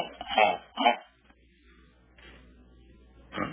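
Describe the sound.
A person mimics a dog barking with two quick, loud woofs close together, followed by a quiet pause and a third bark-like sound cut short at the end.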